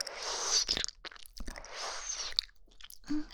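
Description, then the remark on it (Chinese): Ice cubes crunched between the teeth in two long bursts of brittle, crackling crushing, with sharp cracks and wet mouth sounds, fairly loud and with no talking. “这次我还是冰块来帮你吧。”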